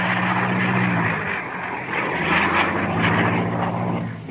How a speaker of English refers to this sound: Next day, a light plane flies near the ground, its engine sputtering.